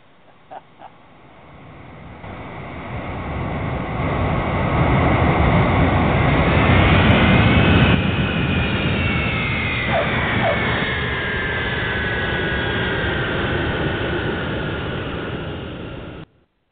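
A jet airliner landing: its engines roar up from quiet to a loud, sustained rumble with high whining turbine tones sliding overhead, holding steady for several seconds before cutting off abruptly.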